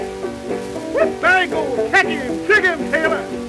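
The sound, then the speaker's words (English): Ringneck hound pups bark and bay in a string of short, high yelps, about five bursts in quick succession, heard over a steady, humming musical background. “About that time, look back over, surely seen them ringneck pups coming.”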